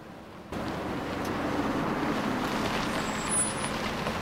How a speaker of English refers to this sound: The car travels steadily on in the fading light, slowing down when it reaches a lonely farmhouse in a field.